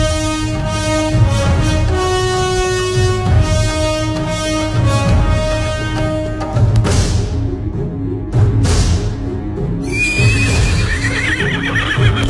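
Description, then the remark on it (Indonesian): A ridden horse whinnies with a high, wavering cry while its hooves clip-clop in a steady rhythm as the rider halts by the upper Gendol River, set against a loud, sustained musical background with no talking. “Setelah Ki Demang turun dari atas kuda”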